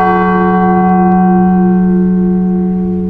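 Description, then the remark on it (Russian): A large church bell, the blagovest, the biggest of ten bells in a bell tower and weighing 1,360 kg, rings loud, its deep fundamental and rich overtones sustaining and slowly decaying across the whole clip with no new strike. “Вот самый главный, большой из них, называется благовестом.”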